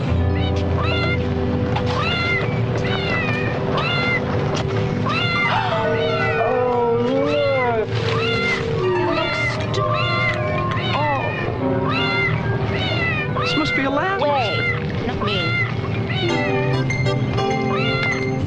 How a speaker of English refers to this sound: Here's a little montage that Avril made of some of the cat meowing